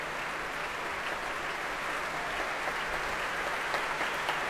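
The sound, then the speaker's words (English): Sustained applause from a large audience and the Philharmonia orchestra after a performance, a dense, steady, reverberant wash of clapping hands at moderate volume with no voices standing out. “Lisa's back on stage to take the warm applause of the Philharmonia, as well as the audience here.”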